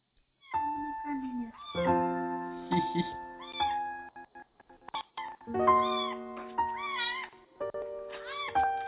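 A kitten meows over and over while a person feeds and pets it, fairly loud: a steady run of high, wavering cries with only brief gaps, some overlapping as if more than one kitten is calling.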